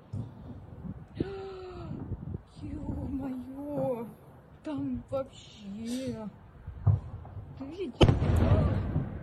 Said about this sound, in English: Now, large explosion in Belgorod, Russia, near the Ukrainian border.